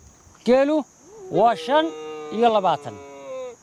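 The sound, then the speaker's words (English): Sheep and goats bleat as a nomadic herder in Somaliland herds them across sun-baked ground in search of fresh foliage, three wavering calls in quick succession, over a constant high insect buzz. “herds his scrawny-looking sheep and goats in search of fresh foliage.”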